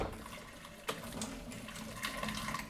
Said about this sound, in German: So, das alles werde ich jetzt erstmal mit kochendem Wasser abspülen.